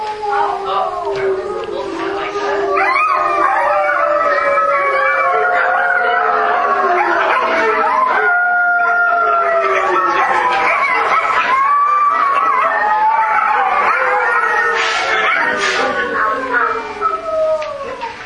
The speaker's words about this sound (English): The next one's the coyotes.